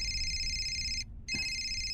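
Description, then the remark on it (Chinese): A phone rings with a steady, high electronic tone, cutting out for a brief moment before starting again. It's fairly loud, with no one talking over it. “你电话。”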